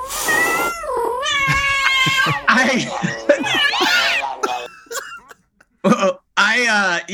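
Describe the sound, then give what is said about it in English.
A voice imitates a cat in heat with drawn-out, wavering, loud yowls and wails, broken by short pauses and a few sharp bursts near the end. “Can you hear the cat sounds?”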